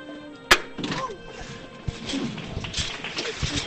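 A single sharp, loud metallic hammer knock, given by the widow of the late Julio Oliva to signal the first lift of a procession float in Cádiz, rings out once, followed by a low murmur of crowd noise and scattered shuffling with faint voices underneath.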